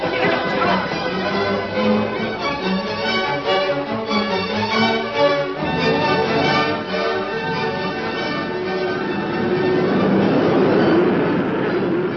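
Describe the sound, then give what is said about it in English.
A steady, heavy rumble of a stampeding herd of steers, with pounding hooves blended into a dense roar and drawn-out lowing tones rising above it, lasting throughout without talk. “They ain't just coming, Red. They're stampeding.”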